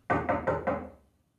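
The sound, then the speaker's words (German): Four quick, firm knocks on a wooden apartment door in an even rhythm, fairly loud, followed by a brief fading resonance and then silence. “Es klopft an seiner Wohnungstür.”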